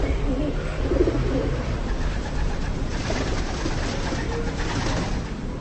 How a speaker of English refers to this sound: Pigeons roost peacefully on the buttresses of St. Bartholomew's Cathedral, near Colleen's pretty main square.